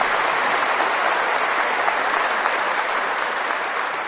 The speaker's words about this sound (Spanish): Si ve lo linda, un aplauso, por favor, para la niña tan linda ella.